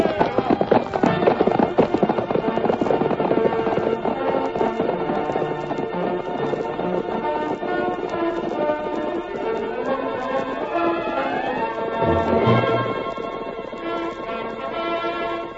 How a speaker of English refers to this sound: swiftest of all was the masked man's white horse, whose hoofs thundered against the earth